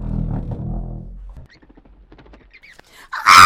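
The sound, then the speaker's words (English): A low rumble fades into scattered faint chirps, then a bat gives a sudden loud, shrill squeak at the end, high-pitched and sharp. “That's just a bat, Mrs. Thayer.”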